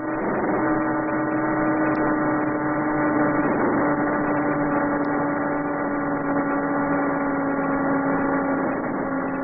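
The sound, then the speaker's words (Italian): A radio signal from the orbiting Transit 4B satellite: a steady, buzzy tone rich in stacked harmonics, like an old car horn, droning on unchanged at an even loudness for about nine seconds with no talking. “Infatti anche la voce del Transit 4B che state ascoltando assomiglia a quella di un vecchio clacson.”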